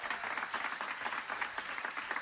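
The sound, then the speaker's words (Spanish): A crowd applauds candidates with ordinary hand clapping, many hands clapping in a dense, continuous patter that holds evenly from start to finish, with no voices standing out. “Ahora nos toca aplaudir, pero las candidatas se merecen que lo hagamos de una manera especial. Primero, unas palmas de toda la vida.”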